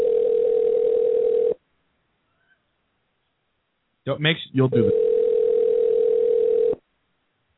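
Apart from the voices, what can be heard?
telephone dial tone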